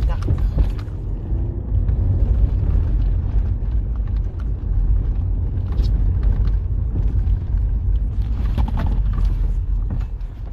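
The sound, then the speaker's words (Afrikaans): A steady, loud low rumble like a car engine running, continuing throughout with faint muffled voices and occasional clatter over it. “Kijk hier nou, een mooi kar so goed as dit.”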